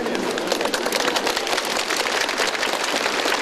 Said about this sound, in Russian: Также патриарх побывал на авиационном заводе имени Гагарина. Главный собор пророка Ильи как раз покровительствует воздухоплавателям. Здесь представители Русской Церкви встретили аплодисментами.